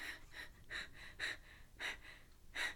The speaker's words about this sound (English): You're panting. Are you laughing? I don't know how I feel about it.